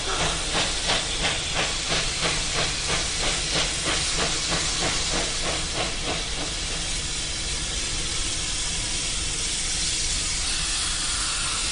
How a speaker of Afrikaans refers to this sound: Dis 'n ou wêreldse lokomotief. Oh, ek is mal hieroor. Help, help. Dit moet 100 jaar oud wees. Of meer.